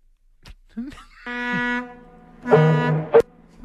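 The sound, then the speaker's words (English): A ferry's deep, resonant horn sounds three long, steady blasts separated by short gaps as the ferry pulls away from port, loud, with brief voice-like noises around them. “See, that's ferry pulling away from port.”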